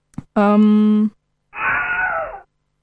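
A classic Wilhelm scream sound effect: a brief strained, droning vocal cry followed after a short pause by a second, rougher anguished yell, loud, with no talking around it.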